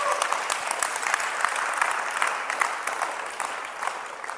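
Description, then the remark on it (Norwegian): An audience claps steadily for several seconds, a dense, even patter of many hands at a moderately loud level, with no talking over it. “Ja, nå kan dere klappe.”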